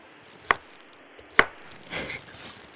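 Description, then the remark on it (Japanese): Two sharp knife chops on a cutting board, spaced about a second apart, as carrots are cut into very small pieces for a cheap mixer, followed by a soft scraping rustle. No one speaks. “今回はじゃあ激安なのですっごい細かく切っていきますね。”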